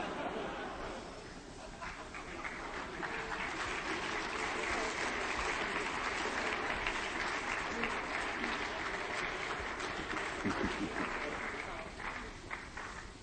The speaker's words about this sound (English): I'd like to go over to the formal part of the ceremony, but it's still 2 minutes to 12, so we'll have to wait a bit. Just keep clapping until midnight.